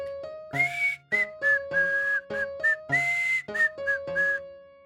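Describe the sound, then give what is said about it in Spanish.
Someone whistles a bright, cheerful little tune while leaving his house with a basket under his arm, a string of short and held notes with brief gaps, sounding alone without any talking. “Y con la cesta bajo el brazo, sale de su casa silbando.”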